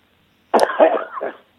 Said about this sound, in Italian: Mi raccomando con la tosse